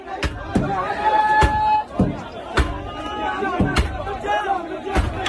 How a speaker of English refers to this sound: An angry mob protesting U.S. airstrikes in Iraq and Syria that killed Iranian-backed Iraqi militiamen smashed through the front entrance of the American embassy in Baghdad.